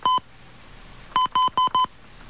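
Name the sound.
telephone number being dialed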